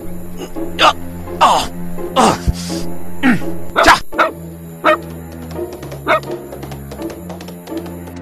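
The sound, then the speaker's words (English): A dog that came with the master, Mr. Rochester, barks in a string of sharp, irregular woofs and yips, about eight or nine in all, over a steady low background hum. “What dog is this? He came with the master.”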